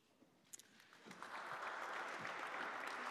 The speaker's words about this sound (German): Schön, ein Applaus zum Schluss, wohl verdient.